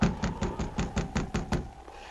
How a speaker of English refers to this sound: Oh, I guess she didn't hear the knock. It's too cold to wait. I'll go on in.